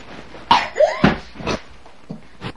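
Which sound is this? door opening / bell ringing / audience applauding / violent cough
violent cough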